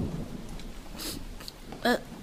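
Heavy rain pours steadily in a dense, continuous hiss, with a low rumbling undertone and a brief tonal squeak near the end.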